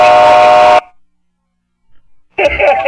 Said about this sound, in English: Whistles.